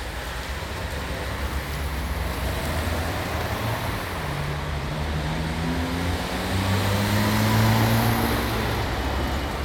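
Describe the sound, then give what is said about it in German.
A busy street ambience with a steady roar of traffic and engines droning. Cars pass continuously while pedestrians walk by, with a heavier vehicle swelling louder toward the end. No one speaks. “Auf der Straße fahren Autos, Passanten gehen vorbei.”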